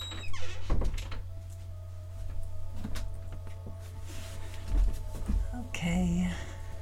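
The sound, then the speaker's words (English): A door is opened to let a dog in, with a few knocks and thunks, a brief creaky squeak near the end, and a steady low electrical hum running underneath throughout. “I need to step to the door and let my dog in.”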